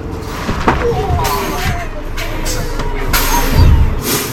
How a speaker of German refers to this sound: So klingt das, wenn Holger Rittstorff mit seinem Bus eine Vollbremsung hinlegt